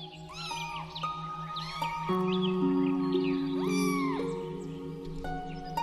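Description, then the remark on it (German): Several high, thin kitten mews overlap in quick succession, rising and falling in pitch, as the kittens run with clumsy, wild jumps up to someone's feet and mew cheekily, set against a steady low humming drone in the background. “Mit tollpatschigen, wilden Sprüngen laufen sie dir direkt vor die Füße und mauzen dich frech an.”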